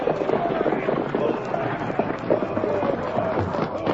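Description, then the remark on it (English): Horses' hooves clatter in a busy, rapid rhythm as a stagecoach pulls up, with rumbling and a noisy bustle of voices and movement underneath, steady and fairly loud throughout. “Pull up the horses!”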